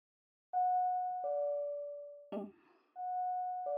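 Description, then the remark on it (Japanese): A two-note electronic house doorbell chime, high tone stepping down to a lower one, rings clearly, breaks for a short noisy rustle, then starts again. No one speaks. “何かしら、家のチャイムが鳴って。”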